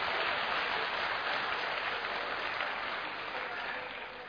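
A crowd applauds steadily, a dense wash of many hands clapping at once that holds strong throughout and eases off slightly toward the end, with no voices over it.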